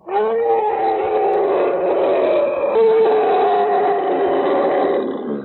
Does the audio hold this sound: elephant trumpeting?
yes